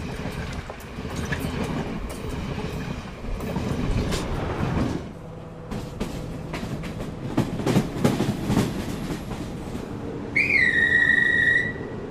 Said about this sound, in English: Trains in Sri Lanka by Rail Audio gives you a collection of old diesel and electric train sounds. You get idles, screeching brakes, pass-bys, and the sweet rhythmic sound of moving trains.